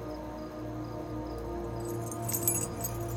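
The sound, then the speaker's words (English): A short jingle of car keys being held up and shaken near the end, bright metallic clinks over a steady low hum, with no one speaking. “Luke holds up some car keys, and Siler follows him.”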